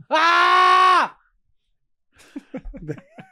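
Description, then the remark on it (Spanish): A person lets out a single loud, sustained scream lasting about a second, followed by a brief silence and then quieter voices talking and laughing. “Ya la nueva es gritar vaina. Yo ando gritando.”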